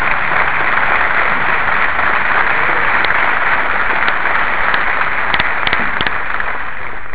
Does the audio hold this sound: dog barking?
no